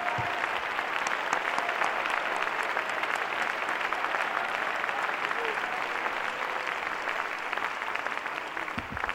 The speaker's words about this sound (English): And would you give one final clap of ovation to that Jesus?